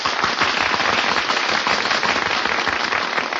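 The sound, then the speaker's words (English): A large circus audience claps steadily as animals enter the big cage, a dense crackling wash of many hands that holds at an even, fairly loud level throughout, with no voices standing out. “Hey, they're applauding us.”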